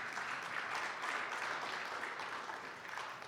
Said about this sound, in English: Who are you clapping for? No, you shouldn't be. You should be clapping for the one who holds me.